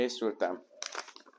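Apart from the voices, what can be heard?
paper crinkling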